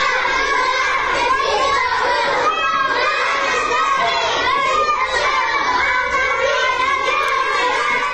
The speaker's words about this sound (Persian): بله، با همون لحن کودکانه شون دارن شعار میدن ژن ژیان آزادی.